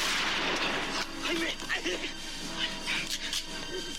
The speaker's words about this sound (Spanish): Bueno, revuelo de disparos, revuelo de heridos, revuelo de golpes, porrazos, y al final consiguen librarse, consiguen huir.